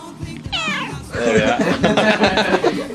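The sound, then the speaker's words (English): A cat named Mayday meows for wet food, a short rising cry followed by a longer, drawn-out, insistent meow, loud with a faint murmur underneath. “Probably the first time I've had a cat on the Radio Clash, actually.”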